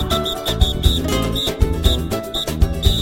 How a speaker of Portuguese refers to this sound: Tá pensando que é brincadeira? Então vou provar. Se a matizada é a melhor, o apito vai soar agora.